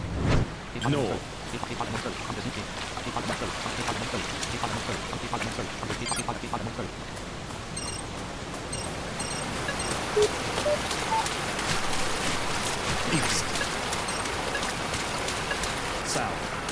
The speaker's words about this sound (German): Oh, ist das laut hier am Wasser.